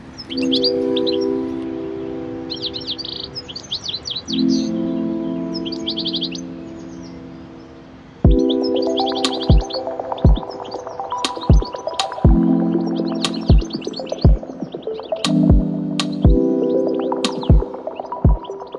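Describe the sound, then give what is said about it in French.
Birds chirp in quick, repeated bursts over a steady low droning hum, with sharp clicking knocks punctuating the second half. No one speaks. “Et c'est vrai que cet oiseau, j'ai trouvé, était magnifique.”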